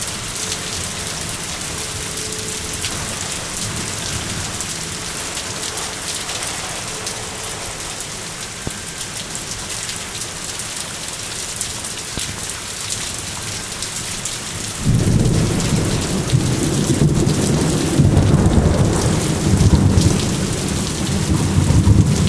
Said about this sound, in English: Thunder's to the left of us, and that one is kind of overhead. Looks like it's dying down.